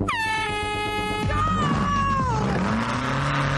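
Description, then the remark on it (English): A loud, high-pitched Jeep engine whines at steady revs in a homemade car built from an old steel gate and Beetle panelling, then its pitch sweeps downward as the car roars past on a racetrack and pulls away, with no one talking. “It's made from an old steel gate, a Jeep engine, and some Beetle panelling, but this car looks right at home on the racetrack.”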